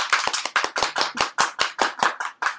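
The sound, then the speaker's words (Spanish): A short burst of applause for brave participants who will dance on stage: sharp, loud hand claps in a quick, fairly steady rhythm, roughly a dozen distinct claps with no voices over them. “Un aplauso a los valientes.”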